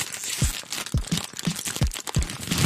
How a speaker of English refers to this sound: Do you like loudly crunching potato chips and crinkling the bag?